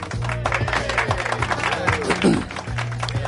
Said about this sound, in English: That applause is like this. Yeah. Well, it's the guys, production assistants, janitors, everybody they could get in to come into the studio.